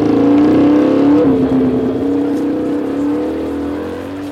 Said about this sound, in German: Oh, hier sind aber viele Leute und es ist so laut. Das ist eine alte Medina. Aufpassen, da kommt ein Motorrad.